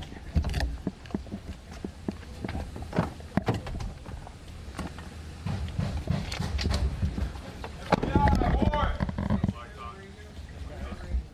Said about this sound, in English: And those are the sounds of FBI officers knocking on Trump associate Roger Stone's door on Friday morning before arresting him.